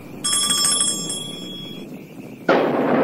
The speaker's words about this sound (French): À Paris, le bruit de l'orage réveille Madame de Bonnefamille.